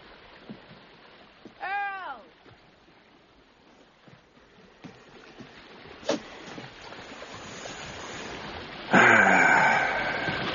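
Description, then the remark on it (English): Sea waves wash in a steady, rushing hiss that slowly builds, ending with a louder surge of surf. A brief, wavering high cry sounds early on. “The sea is magnificent.”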